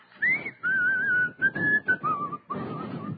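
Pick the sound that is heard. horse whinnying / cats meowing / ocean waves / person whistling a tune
person whistling a tune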